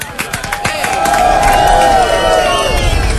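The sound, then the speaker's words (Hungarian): A crowd shouts and cheers loudly, a sustained roar of many voices rising after a few sharp claps or thumps at the start, with whoops standing out above the din. “Ez kezd az a hülye tévéműsorokhoz hasonlítani, ahol mindig kiabál a közönség, mi?”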